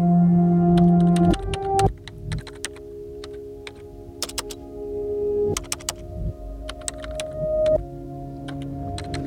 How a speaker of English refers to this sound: She stares at the upright, blinking line that is the door for words to walk out of, lifts her fingers to the keys, and pushes down.